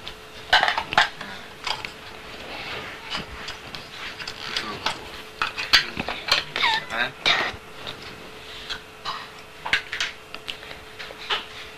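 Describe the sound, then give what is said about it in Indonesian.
Dishes and saucers clink and scrape as they are shifted around, a steady run of irregular clatters and taps, with soft voices talking in the background. “Ini tatak. Tatak di sini dong. Ini kan tatak sini. Itu pakai ini nih, di sini. Geser-geseran.”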